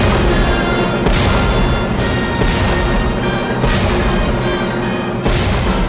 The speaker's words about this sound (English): Five cannon shots are fired in the Battle of Borodino, a turning point in the war.